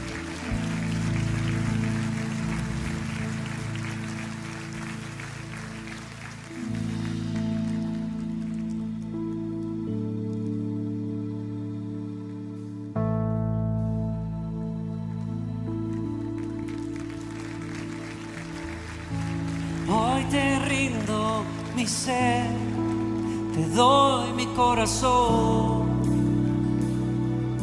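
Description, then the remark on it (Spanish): A crowd claps steadily over sustained keyboard chords, applauding the people walking up to the front for prayer. The dense patter fades after several seconds as the music continues and a voice begins singing a song of surrender. “Denles un aplauso a esas personas que están pasando, ¿sí?”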